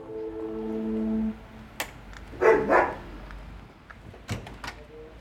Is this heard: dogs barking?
yes